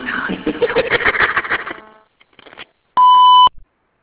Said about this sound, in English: Do your name, number, short message after the beep. Otherwise, bye bye.